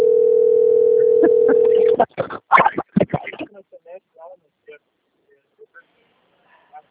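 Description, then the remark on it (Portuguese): A steady, mid-pitched telephone tone of a phone call from Chapecó about FGTS hums for about two seconds, then cuts off, giving way to a flurry of loud crackling bursts and then faint, scattered voices. “uma ligação de Chapecó.”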